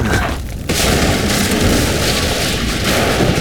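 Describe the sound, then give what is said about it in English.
A burning saloon's roof caves in with a shower of sparks: a heavy crash bursts in after a brief lull, then a loud, steady roar of crackling and rumbling debris carries on to the end. “Shower of sparks, the saloon's roof caved in.”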